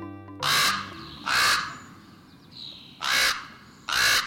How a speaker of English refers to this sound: The Raven. Its voice is unmistakable, held a prominent place in the myths of many cultures, from the Vikings to the tribes of the Northwest Coast, across the entire Northern Hemisphere.